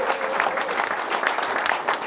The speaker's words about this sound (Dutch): En daar gaat hij hoor. 1, 2, applaus.